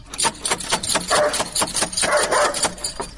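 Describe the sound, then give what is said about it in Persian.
A dangerous dog at a house barks in several loud bursts, mixed with sharp percussive thumps of someone knocking on the house's door, with no talking. “اوه چی یک سگ خطرناکی داره ای.”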